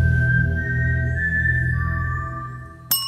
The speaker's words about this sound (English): Lionsgate Entertainment owns this tune, described as, quote, a human whistling a G4 eighth note, followed by a B-flat 4 eighth note, followed by an A4 eighth note, followed by a D4 half note, in the key of G minor.